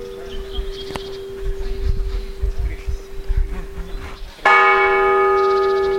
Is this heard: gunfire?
no